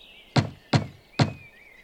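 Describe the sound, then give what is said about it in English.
Goldilocks knocks three evenly spaced times on the wooden door of a house in the forest, each a solid, hollow thud with a quick decay, over a faint, thin high-pitched tone in the background. “Goldilocks knocks on the door.”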